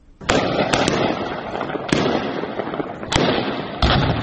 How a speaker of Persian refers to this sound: صداهای شلیک های متواتر گلوله از شهر زرنج مرکز ولایت نیمروز، جایی که گفته می شود صبح امروز گواه درگیری میان نیروهای امنیتی طالبان و اعضای شاخه خراسان گروه داعش بوده است.